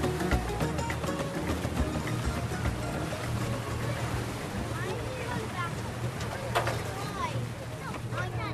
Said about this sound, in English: Finally, the last ferry boat comes over.